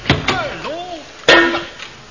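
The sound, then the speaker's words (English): A couple of quick thwacks, then a louder, ringing metallic clang of a shovel striking someone's head, with short wavering vocal groans or yelps in between. “don't you hit me with a hammer again. It wasn't a hammer, it was a shovel.”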